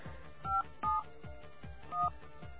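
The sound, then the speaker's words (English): A telephone keypad dialing a phone number: three short two-tone beeps pressed in quick succession, clear, over a faint rhythmic background hum with no voices. “You can guess the rest of the phone number.”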